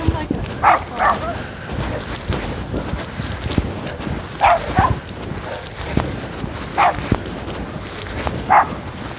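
A dog barks in short, sharp bursts, often in quick pairs, separated by pauses of a few seconds, over a steady background of noise and faint murmuring.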